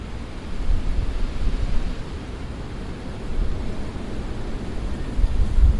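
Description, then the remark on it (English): Steady, roaring wind from a winter storm bringing the first snow blows outdoors, knocking wind chimes around, a dense rush of noise heavy in the low rumble, swelling and easing in gusts throughout with no voices. “Can hear people's wind chimes getting knocked around. It's a good one. It's a good storm.”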